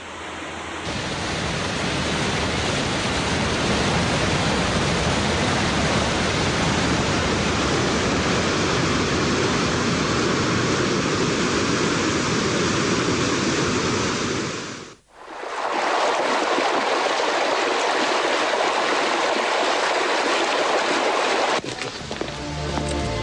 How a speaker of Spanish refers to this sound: La zona norte de la isla es la que recoge más lluvia, por lo que tiene gran cantidad de quebradas y torrenteras, que terminan en unos impresionantes saltos como el así bautizado Velo de Novia, por su forma característica.